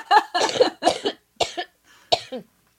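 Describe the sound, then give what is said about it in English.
A loud fit of coughing: about five harsh, raspy coughs in quick, uneven succession, with short pauses between the later ones and no talking. “Cough and pee.”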